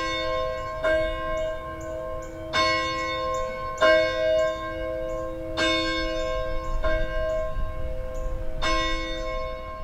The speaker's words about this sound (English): ring the church's bell